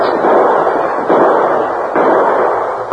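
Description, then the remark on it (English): Loud gunshots ring out in a steady volley, about one per second, four in all, each a sharp blast with a long, rumbling decay that nearly blurs into the next, in a shootout between men in a shack and a posse outside, as the Lone Ranger fires through a back window. No voices are heard. “Just as Tubby aimed at the sheriff outside through one of the side windows, the Lone Ranger fired.”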